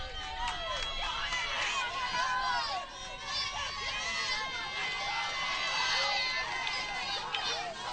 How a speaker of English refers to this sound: Crowd very much into this ballgame. A lot on the line, a trip to the state championship game on the line here at Peterswood Park today.